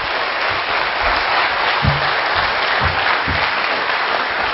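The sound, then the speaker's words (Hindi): A crowd of people claps steadily, a dense, even wash of applause that holds at the same loud level throughout, with a few faint murmurs underneath. “तो आप सभी से पुनः एक बार गुंजारिश कर दो, एक बार जोरदार तालियों की बारिश।”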